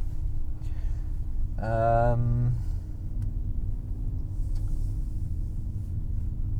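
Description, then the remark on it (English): A car engine rumbles low and steady from start to finish as the vehicle pulls out of a driveway on a somewhat sunny afternoon, heading downtown for chores, with a brief drawn-out yawn rising over it early on. “We're driving the big spy car today as I take a big yawn.”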